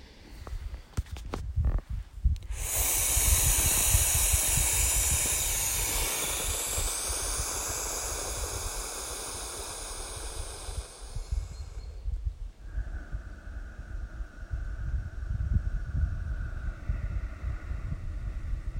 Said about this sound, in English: A little bit of breathing to finish this one. In through your nose, out through your mouth.